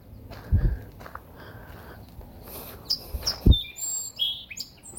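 song sparrow singing

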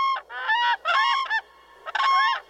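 whooping crane calls

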